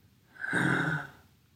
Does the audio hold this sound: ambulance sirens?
no